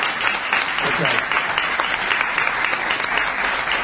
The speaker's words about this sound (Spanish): Bueno, aquí tenemos, si vamos lejos, a Esther Goris. Le Muy vamos bien. A aplaudirla.